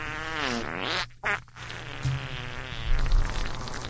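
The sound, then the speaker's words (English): A buzzy, sputtering fart sound effect with a wobbling, rising and falling pitch, cutting out briefly partway through before rumbling on again, fairly loud with no one talking. “Someone, hey, we need the fart sounds.”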